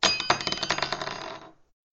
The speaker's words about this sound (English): The humans call this a bell. When you move it, it makes a noise. She rolled the bell over and it tinkled.